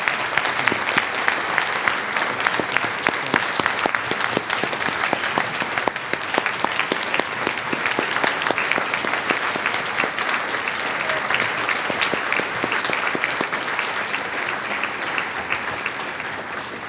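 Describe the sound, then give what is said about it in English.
Sustained applause from an audience for the Ogden Surgical staff, a dense steady patter of many hands clapping at an even loudness for around seventeen seconds, with no voices standing out. “if you could please give them a round of applause.”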